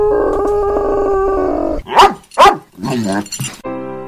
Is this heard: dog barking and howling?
yes